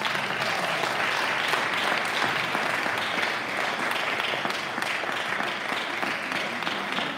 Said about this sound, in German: Gebt ihnen auch mal einen ganz großen Applaus.